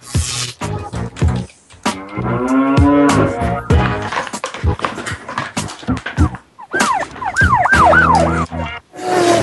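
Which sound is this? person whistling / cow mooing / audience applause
cow mooing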